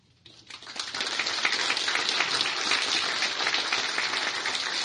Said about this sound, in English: So first, I'd like to get the paid group, the staff here at LCUUC. We may be paid for what we do, but it's also an amazing labor of love. Could I have a round of applause for our nursery staff?